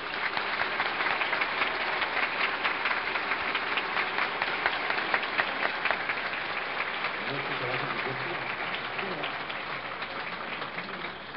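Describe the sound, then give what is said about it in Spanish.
Sustained audience applause at the opening of a congress, for the event's organizers: a dense steady clatter of many hands clapping at even loudness for about eleven seconds, with faint voices murmuring underneath. “Y para ellos pido un aplauso.”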